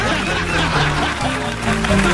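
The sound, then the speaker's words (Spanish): A duck quacking sound effect plays loudly for a couple of seconds, a dense run of nasal quacks, with what may be faint chuckling mixed in. “No un plato de lenteja, un pato.”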